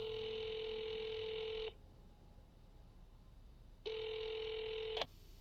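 A phone call ringing out: two long, steady, buzzy ring tones separated by a pause of about two seconds, then a sharp click as the line picks up. No one speaks.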